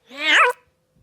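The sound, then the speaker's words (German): A single short, whiny cat meow rises and falls in pitch for about half a second, loud, followed by silence. “War das eine Katze?”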